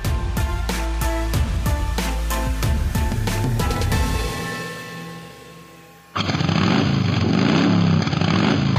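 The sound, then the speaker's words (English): A rhythmic musical passage fades out, then a loud motorcycle engine suddenly roars to life and keeps revving steadily to the end, opening a promo for the motorcycle show Life in the Fast Lane. “If you love motorcycles, I invite you to listen to Life in the Fast Lane, hosted by me”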